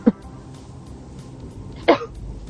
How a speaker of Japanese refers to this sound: はい、ちょっと咳が出る。